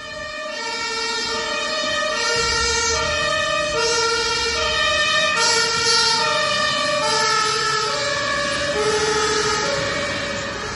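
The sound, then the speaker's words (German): An emergency doctor's vehicle siren blares a loud two-tone wail, alternating high and low pitches in a steady rhythm, swelling slightly and easing off as it drives past a house about 300 metres from the local hospital on a warm late-May day, on its way to an emergency call, with no one speaking. “Aber kurz darauf klingelte das Telefon und ich erfuhr, dass der Notarzt wohl zu meiner Mutter gerufen wurde, die dann leider auch verstorben ist.”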